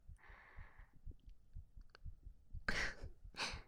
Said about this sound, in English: Wow, I can hear your heartbeat. It's pounding pretty fast. Is it because of me?